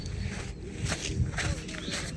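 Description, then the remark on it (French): Footsteps crunching on beach sand at low tide on the Gulf of Morbihan, France, a steady series of soft gritty crunches at an even walking pace, moderately loud over a low rumbling background. “Mais écoutez le sable.”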